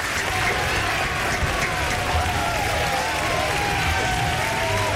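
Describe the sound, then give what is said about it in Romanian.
Steady, dense audience applause lasts the whole five seconds at an even, fairly loud level, a continuous crackle of many clapping hands with faint voices mixed in underneath. “Mihai Matei, românul care a construit platforma globală de distribuție a vaccinurilor, a zis o chestie pentru care merită aplauze.”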